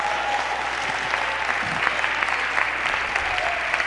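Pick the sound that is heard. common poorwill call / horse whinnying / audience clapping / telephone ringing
audience clapping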